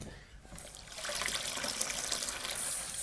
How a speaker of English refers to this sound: Fill up the mug with enough water for a cup of tea, and maybe just a tiny little bit extra.